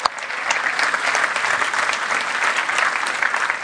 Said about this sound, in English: But before we do that, let's spend a little bit of time thanking our moms, welcoming our moms. Give a round of applause for the moms.